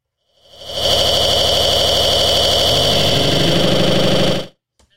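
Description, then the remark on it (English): A loud, steady airplane engine roar with a whining high-pitched tone rises quickly, holds for about three and a half seconds, then cuts off abruptly. “Hold on. Is this plane?”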